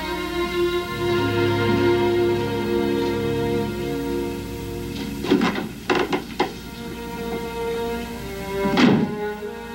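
Dull, wooden door thunks: a quick cluster of three or four knocks midway, then one more solid thud near the end, all set against a soft, sustained musical background.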